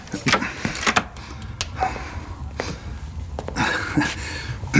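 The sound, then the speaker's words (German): A door is pulled shut, with a few scattered clicks and knocks of the handle and latch before a firmer thud toward the end, over a quiet background. “Schließen Sie die Tür, setzen Sie sich zu uns und schenken Sie sich ein Tässchen Tee ein.”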